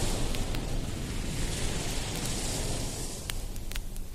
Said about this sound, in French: Des bruits de vagues qui engloutit la ville d'Is